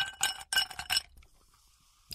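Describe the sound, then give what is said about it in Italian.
Ice cubes clink and rattle against a glass of anise aperitif in three or four quick bright bursts, fairly loud, then fade, with one last small clink at the end. No one speaks. “Forza, questo uso con un po' di ghiaccio rinfresca bene.”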